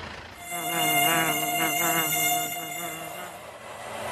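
swarm of mosquitoes buzzing

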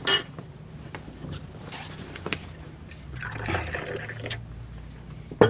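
shower water running

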